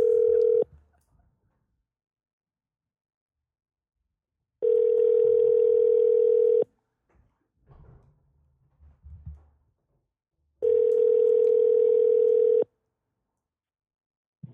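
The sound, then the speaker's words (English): A phone line rings through: a steady electronic ringback tone in two-second bursts separated by several seconds of near silence, repeating three times with faint rustling between rings. “You're gonna answer Ricky's phone?”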